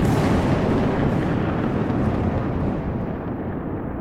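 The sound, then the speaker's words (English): A deep, sustained roar of thunder from a lightning strike rumbles continuously, loud and dense across low and mid tones, slowly losing its upper crackle as it rolls on. No voices are heard. “The lightning struck the circle.”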